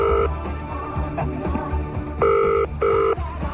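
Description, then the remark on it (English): A telephone rings with two short electronic bursts in quick succession, fairly loud over a low, steady background rumble, with no one speaking. “If I sort of gave him a phone call and, you know, found out what kind of state of mind he was in.”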